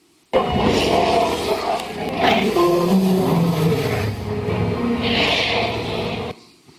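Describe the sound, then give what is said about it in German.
A long, loud dinosaur roar from the documentary series Prehistoric Planet, lasting about six seconds: a deep rumbling growl with shifting low tones and a raspy, breathy hiss on top, ending abruptly. “Was die jetzt alle gemeinsam haben, das ist eigentlich immer irgendeine Form von Brüllen.”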